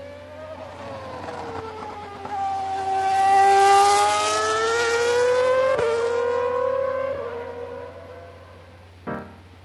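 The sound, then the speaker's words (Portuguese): A race car engine revs hard, its pitch sweeping up and settling into a sustained high whine, with a brief mechanical click near the end, no voices present. “Bom, então eu acho que hoje a gente pode passar nosso carrinho direto.”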